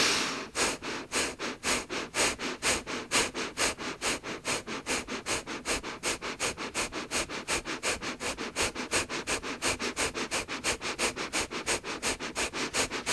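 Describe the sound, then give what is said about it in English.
Fast, steady nasal breathing repeats in a tight rhythm, each sharp sniff-like exhale following the last at an even pace, fairly loud, with no talking. It is a breathing exercise done with the shoulders back, at a comfortable pace, with the breath kept in the belly. “And gently begin your breathing.”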